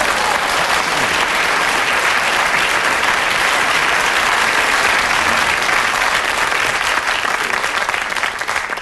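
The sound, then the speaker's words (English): Sustained, dense applause from a large audience fills the whole stretch at steady loudness, a continuous crackle of many hands clapping together with no pauses or voices. “Indeed, people often have said about me, he is a cult figure, and one who is due to receive and should get a tremendous amount of enthusiasm and applause.”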